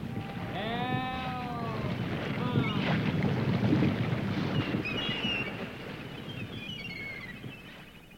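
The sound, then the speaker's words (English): A steady, loud rush of waterfall water roars throughout, with a brief wavering vocal cry near the start and faint high whistling tones later. “Help. Help. Waterfall, waterfall.”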